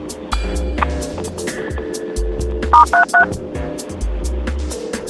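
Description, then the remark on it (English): Three quick telephone keypad tones beep in succession, each a short two-note electronic chirp, clear over a low steady hum and faint background rumble, as someone dials on a phone. “On my phone here. Let me try it one more time before I transfer you.”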